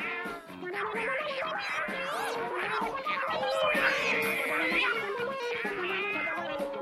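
A crowd of cats yowling and screeching at once during a fight with dogs, their overlapping wails rising and falling in a loud, continuous din that never lets up.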